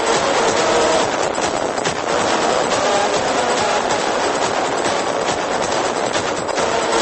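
A loud, dense electronic music track with a continuous wall of harsh, distorted noise and a faintly pulsing texture, no vocals, sustained at steady volume throughout.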